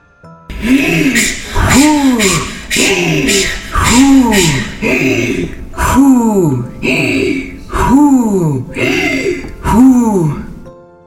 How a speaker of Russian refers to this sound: Ёжик с медвежонком легли голова к голове и стали дышать.